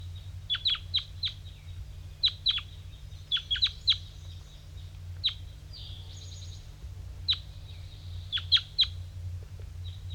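Wild birds flying in give repeated sharp, high-pitched calls in short bursts of two or three, spaced irregularly, over a steady low rumbling hum. No one speaks.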